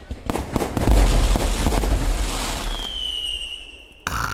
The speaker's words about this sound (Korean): 그 전에 유베라 방구석 불꽃축제 첫 번째 불꽃쇼가 진행될 예정입니다. 자, 라디오 최초 불꽃쇼. 자, 시작합니다. 자, 여러분, 첫 번째 폭죽 갑니다.